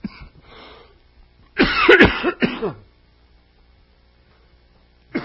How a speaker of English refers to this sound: that he can improve in his health and the coughing and everything and get him ready for Thursday night.